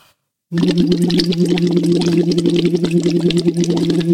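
A steady hummed "oe" tone blown through a tube held in the mouth on the tongue, its other end 2 centimetres under water, with continuous rapid bubbling and gurgling layered over the low pitch. It starts after a brief silence and holds loud and unbroken.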